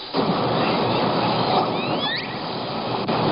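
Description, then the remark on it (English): A few upward-sliding, whistle-like calls, the S19 call type likely from L-Pod, rise in pitch around the middle, like a slide whistle, moderately loud over a constant broad hiss of background noise. “And it's more of an upward kind of, I think of it as like a upward rising sound like this.”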